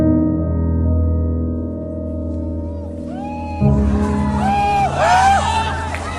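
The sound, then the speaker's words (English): A night riot by angry employees at a Foxconn tech assembly plant in China: a steady low rumble of engines and crowd noise, then midway loud, warbling police car sirens and shouting voices burst in amid breaking glass, swelling and clashing over the din. “Broken glass police cars. This is the dark side of tech assembly plants in China.”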